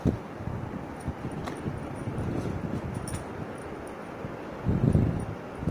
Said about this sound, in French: Ces derniers temps, le vent n'offre aucun répit aux nuages. Ils sont privés de promenade lorsque le vent est d'humeur dansante.